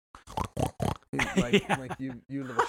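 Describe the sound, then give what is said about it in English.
A voice imitates a pig, recreating Gandolfini snorting and squealing at someone: four quick, harsh snorts, then a loud, wavering squeal that rises and falls in pitch, clear throughout. “Oh boy, damn, Gandolfini snorted at you. Oh, squealed at you.”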